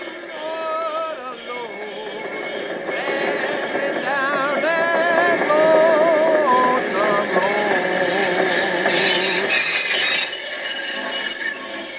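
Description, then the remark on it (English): A freight train half a mile long, coming along a track, rumbles steadily, loud and continuous, with wavering metallic tones squealing above the broad roar; the noise swells slightly through the middle before easing back. “A freight train half a mile long and coming right toward me.”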